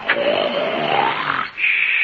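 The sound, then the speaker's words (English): A loud, rasping snore from a woman asleep in a bedroom drags on for about a second and a half, its pitch rising slightly, then breaks off into a thin, steady high whistle. “As soon as you start a snoring, you play a tune.”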